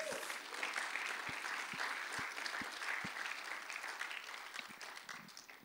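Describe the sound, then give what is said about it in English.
A crowd breaks into sustained applause, dense overlapping claps at a steady, fairly loud level, with a few sharper individual claps standing out before the sound begins to thin toward the end. “Yes, you can give God a clap.”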